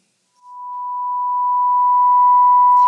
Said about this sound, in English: His qualities, His attributes, His thoughts and His actions as a sound wave with a single frequency, we would hear a pure tone.